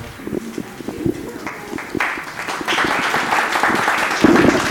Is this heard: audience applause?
yes